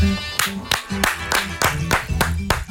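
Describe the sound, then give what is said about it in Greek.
Steady rhythmic clapping, about eight sharp claps at an even pace, with a voice or tonal sound running underneath. The claps are fairly loud. “Σε χειροκροτάει σύσσωμο το κοκτέιλ, ναι, φίλε, ναι, ναι, συνέχισε έτσι.”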